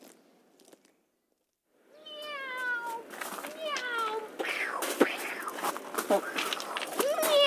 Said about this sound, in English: Meow! Meow! Meow!